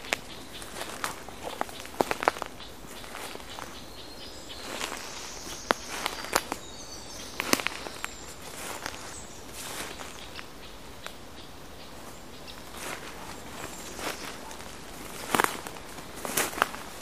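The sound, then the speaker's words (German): Irregular rustling, crunching footsteps of a person moving slowly through vegetation toward an alarm-calling garden warbler, fairly quiet, with a few sharper steps scattered among softer shuffles and no voices. “Jetzt wird sie still, wenn ich näher rankomme.”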